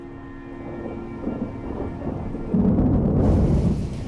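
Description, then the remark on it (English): Steady rain pours down with low rumbling thunder rolling beneath it, growing heavier and louder toward the end, with a hiss of downpour filling the upper range. “Now Bruno's in the rain.”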